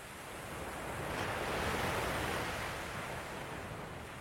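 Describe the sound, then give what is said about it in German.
A steady roar of ocean surf washes in, swelling gently to a fuller crash midway and then easing back, broad and hissing with no voices present. “Ich sehe mich mit 83 auf einer Insel, einer Klangwolke aus Tönen, beobachte die Wellen und höre mein Radio.”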